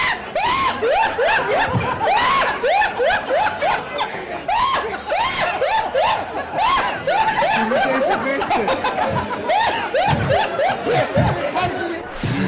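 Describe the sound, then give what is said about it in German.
A laughing bag toy cackles nonstop in loud, mechanical bursts of high-pitched chortling and snickering, repeating in a rapid, uneven rhythm with no one speaking. “Das ist unser lieber Lachsack.”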